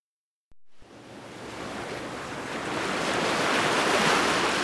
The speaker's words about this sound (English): Is this the Pacific Ocean, Dad? Yes. We flew across the Atlantic Ocean and then across Canada to the Pacific. The ocean. I'd like to swim in it. Too cold.